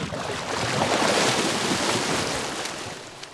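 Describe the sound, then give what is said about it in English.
Steady, broad rush of splashing water from an underwater hockey game in a pool in Phoenix, loud, swelling through the middle and easing off toward the end, with no voices heard. “playing underwater hockey”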